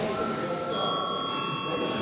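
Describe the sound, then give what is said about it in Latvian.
A parliamentary chamber bell in the Latvian Saeima rings continuously before the registration of deputies' attendance, a steady, fairly loud electric ringing that holds at an even level for about two seconds with no pauses. “Lūdzu zvanu.”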